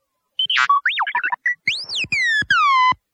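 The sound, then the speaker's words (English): A robot named Tonin chirps a quick string of electronic beeps and warbles, then gives several sweeping, descending tones, asking a question. Bright and clear, with no voices. “Tonin beeped a question.”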